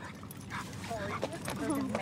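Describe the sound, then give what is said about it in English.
Puppies give a string of short, high yips and little barks, growing busier toward the end, over a steady murmur of people talking, at a puppy Pilates class for university students on outdoor recreation fields. “Recently, as students at WVU were preparing for finals, the school's Student Health Center hosted a puppy Pilates class aimed at de-stressing students before finals.”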